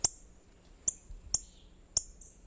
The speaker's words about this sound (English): A female northern cardinal plucks a black oil sunflower seed from a feeder.